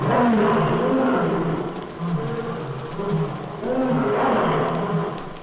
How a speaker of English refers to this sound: I'm Tommy the Tiger. Leon the Lion said he's king of all the animals. But I think I can roar louder than he can. Just listen to this.